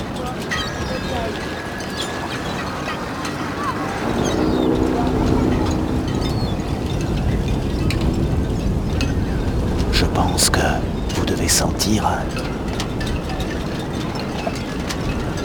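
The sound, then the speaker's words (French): A boat's engine drones as a group of children returns from a boat trip on a rather rough sea, heard from a pontoon, over a steady rush of squally wind and choppy water, with voices talking faintly in the background and a few sharp knocks and splashes. “Un groupe d'enfants revient d'une balade en bateau par une mer plutôt agitée, comme vous pouvez l'entendre.”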